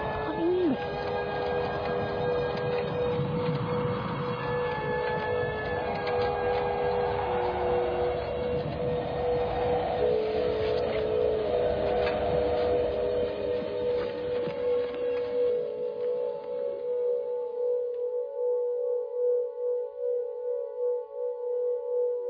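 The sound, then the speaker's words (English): Steady electronic sine tones, generated by a piece of sonic art all by itself, hum at several pitches, layered with a dense, noisy wash that fades out after about fifteen seconds, leaving a few pure, sustained tones droning on their own. “Sign tones. It's a piece of sonic art. Mm. Very clever it is. It generates sign tones all of itself.”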